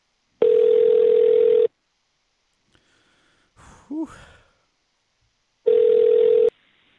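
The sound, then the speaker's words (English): An outgoing phone call rings back twice, each a steady, buzzy mid-pitched tone lasting just over a second, separated by a long pause in which someone lets out a brief sigh. “He's probably not even going to pick up.”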